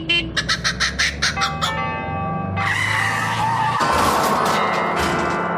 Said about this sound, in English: That's a kookaburra in a Hillman Minx colliding with a set of tubular bells.